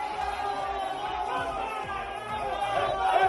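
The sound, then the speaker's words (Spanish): A group of Spanish and Hispanic handball fans shouting together in Budapest at about 7:50 in the evening, a dense, continuous wall of overlapping voices and crowd noise that holds steady and swells slightly louder toward the end. “Te voy a decir una cosa, eran las 8 menos 10 de la tarde cuando un grupo de españoles, un grupo de hispanos, gritaban así en Budapest.”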